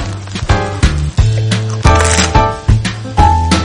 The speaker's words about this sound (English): Behold, my crispy, crunchy bread. If you listen, you can hear it. It's crispy and crunchy.